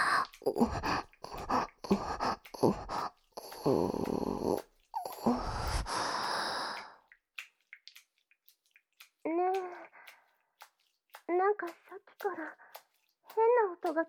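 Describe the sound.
Water splashes in a rapid run of loud bursts for several seconds, then stops, followed by short voiced sighs and moans.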